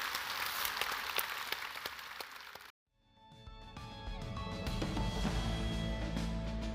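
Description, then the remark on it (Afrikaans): A church audience breaks into dense, steady applause for the Lord for a few seconds. It cuts off abruptly into a brief silence, then sustained music with held tones rises and continues. “Kan ons asseblief vir die Here 'n groter hande klap gee, asseblief?”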